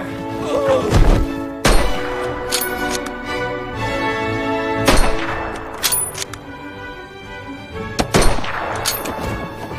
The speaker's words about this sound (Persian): سگ خیلی خوبی داری کانروی، حتی از صدای شلی که گلوله هم نمی ترسه.